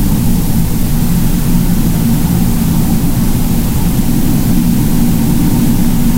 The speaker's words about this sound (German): Doch für die Forscher ist dieses Rauschen ein Chor der Unterwasserwelt. Es ist die Überlagerung von vielfältigen Tonquellen, dem Wind an der Wasseroberfläche, kalbenden Eisbergen, vor allem aber der Meeressäuger, die kommunizieren oder jagen,